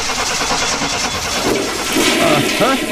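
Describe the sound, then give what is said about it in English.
A car engine, started up for a mechanic checking the car, cranks and turns over with a gurgling, rushing sound much like a toilet flushing, steady, swelling louder near the end. No one speaks. “the problem is you're flushing your money right down the drain because your tires are underinflated”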